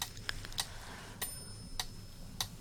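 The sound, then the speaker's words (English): A metronome ticks steadily on its own, sharp crisp clicks arriving at an even pace, about five in under three seconds, fairly quiet against a soft low background hum. “It's okay to think them, of for your mind to sometimes wander off, for you to sometimes even lose track of my voice as the metronome's ticking takes over your thoughts.”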